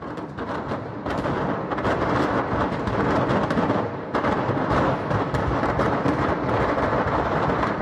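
A dense, continuous barrage of booming explosions, gas cylinders bursting one after another in rapid, overlapping blasts over a deep, rumbling roar, with no voices.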